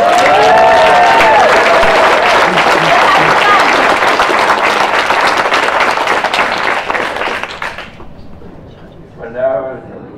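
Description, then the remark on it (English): A crowd at a fundraising event bursts into loud, sustained applause for the speaker's father, with some cheering voices mixed in, the clapping dense and steady for several seconds before thinning out and fading near the end. “Round of applause for Dad.”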